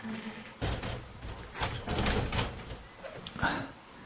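A door is pushed shut, with a sudden thud followed by scraping and rattling as it settles, and softer knocks trailing off over a few seconds.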